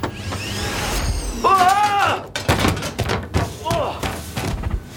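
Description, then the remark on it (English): A heavy thud and knock, then a wavering creak and a solid thump as a hidden secret door swings open, with scattered vocal sounds and rustling around it. “Guess you figured out how to open the secret door.”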